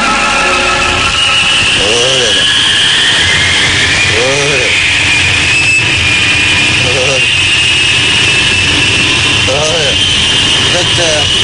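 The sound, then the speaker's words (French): A steady, loud engine drone inside an airplane cabin during a flight fills the whole recording, with a constant high whine on top and brief muffled voices surfacing now and then. “On est dans l'avion, imbécile.”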